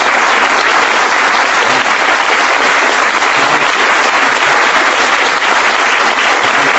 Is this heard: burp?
no